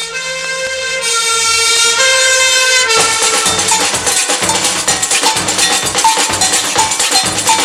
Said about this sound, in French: Une sirène appelle au feu tous les pompiers et tout Rion qui se réveille voit brûler l'usine de café.